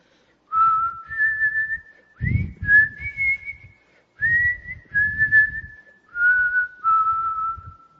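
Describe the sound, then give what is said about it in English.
A person imitates a train guard's whistled signal, given while standing under a train window: a string of clear, sustained notes in a few rising and falling phrases separated by brief pauses, with breathy noise underneath. “And the horrible, scary-looking guard came and stood right under their train window, and he whistled.”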